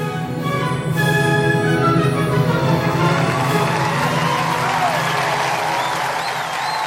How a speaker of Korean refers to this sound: 관객들은 감동해 자리에서 일어나 박수를 치며 환호했다.